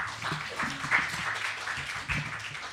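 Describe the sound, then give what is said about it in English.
A crowd applauds a speaker being introduced to give a talk, with dense, steady clapping that holds at an even level throughout, a few sharper claps standing out from the continuous wash. “So if you give her a warm round of applause.”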